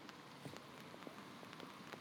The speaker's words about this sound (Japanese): 冬の日の雨、